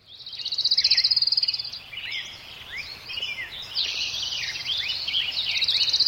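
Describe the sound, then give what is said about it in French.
Birds chirp and warble continuously over a dense, steady buzz of insects, a lively outdoor chorus with many overlapping calls and rapid trills, moderately loud, with no voices. “Voici le bruissement ordinaire et familier auquel il nous faudra bientôt renoncer. Oublier le bruit des oiseaux, oublier les insectes aussi”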